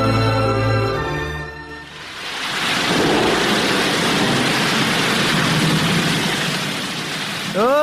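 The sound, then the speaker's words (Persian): After a brief tonal opening, a loud, dense roar of rushing floodwater swells in and churns steadily without a break, overwhelming, until a short rising tone cuts in at the end. “بخی که سیل آمد.”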